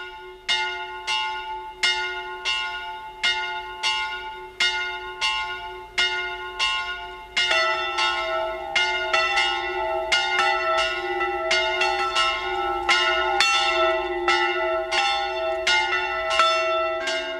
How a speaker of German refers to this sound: Es ist 12 Uhr. Sie hören die Glocken der Pfarrkirche Flachau im Pongau, Land Salzburg.